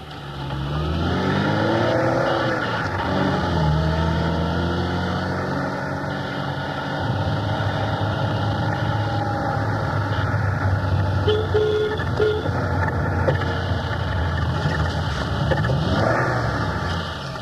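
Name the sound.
car engine running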